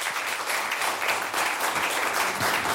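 An audience applauds in a dense, steady wash of many hands clapping, holding an even loudness for a few seconds with no voices rising above it.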